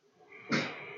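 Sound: two sneezes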